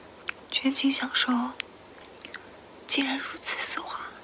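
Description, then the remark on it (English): Crisp bites and wet, crackly chewing of a Dove chocolate bar, from a 2015 Chinese ASMR commercial, come in two bursts separated by a short quiet pause, with soft mouth sounds in between. “It was for Dove Chocolate, and it began with someone opening the Dove bar wrapping. Then they took a bite and chewed.”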